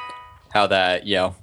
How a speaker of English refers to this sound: Yeah, and that sound is the text message of